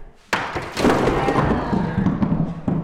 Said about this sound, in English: knocks an impressive chunk of brick from an old fireplace mantle with the swing of a sledgehammer.